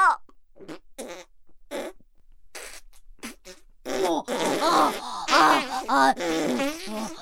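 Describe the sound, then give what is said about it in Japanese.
Wet, spluttering flatulent bursts like a diarrhea bowel movement: a few short sputters at first, then a louder, longer stretch of continuous bubbling, splattering noise. “そう、下痢便です。”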